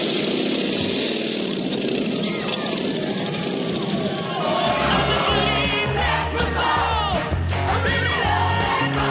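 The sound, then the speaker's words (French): A motorcycle engine roars up loud, surging in about halfway through and revving amid a dense wash of crowd noise and voices, as the character Eddie makes a crashing, backfiring arrival on a motorcycle in a film scene. “qui fait une arrivée fracassante autant que pétaradante à moto”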